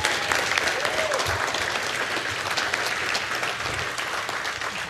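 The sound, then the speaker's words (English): A crowd claps steadily in dense, sustained applause to thank a man, holding at an even loudness for about five seconds, with no pause or fade. “And please give that man a round of applause.”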